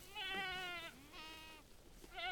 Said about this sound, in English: In a field of brush just north of Auburn in the Sierra Nevada foothills, a bunch of goats are grazing under the hot afternoon sun.